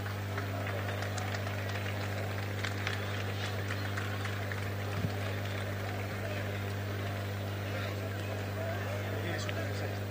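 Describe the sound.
A crowd at a town festa major claps steadily for about ten seconds, welcoming the mayor, Oriol Lozano, a dense, even patter of many hands over a constant low electrical hum, with some voices mixed into the noise.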